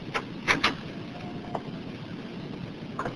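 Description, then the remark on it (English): A door handle is tried, rattling with a few sharp clicks and knocks, followed by a faint creak and a last click as the door is pushed open, over a low background rumble. “Try the door”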